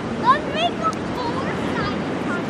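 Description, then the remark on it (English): A steady, wide roar of ocean surf and wind at San Francisco's Ocean Beach during the Rip Curl Pro Search surf contest, with faint crowd voices and brief high chirping calls drifting over it. “Politics was probably the last thing on the minds of hundreds who turned out at San Francisco's Ocean Beach this week to watch the world's best surfers compete in the Rip Curl Pro Search Surf Contest.”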